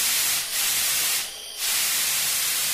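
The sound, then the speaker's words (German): A steady, loud hiss of pressurized gas as a brewer lets pressure out of a beer brewing tank to regulate it so there is less carbonation in the beer, briefly dipping twice before surging back strong, with no voices over it. “Ja, ich habe ein bisschen Druck abgelassen vom Tank, da war ein bisschen viel Druck drauf und jetzt habe ich es reguliert, dass wir später nicht so viel Kohlensäure im Bier haben.”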